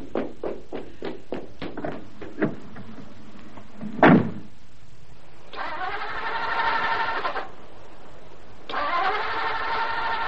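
A car engine cranks in two sustained whirring bursts without starting, with the choke pulled right out, after a run of quick rhythmic clicks and a loud door-like thump; no voices.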